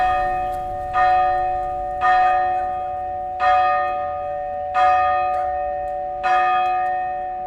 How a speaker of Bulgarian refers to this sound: Празничните камбани вече бият.